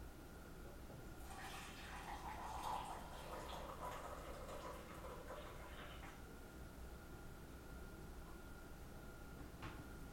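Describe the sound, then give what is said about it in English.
Boiling hot water, for making coffee, pours steadily from a lever-operated dispenser as the lever is pushed down: a splashy rushing stream for several seconds that fades out, followed by a quiet hum and a faint click near the end. “I will begin the process of pouring the water inside You'll hear the water go inside as I push down on this lever.”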